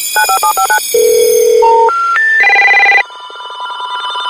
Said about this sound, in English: Phone tones.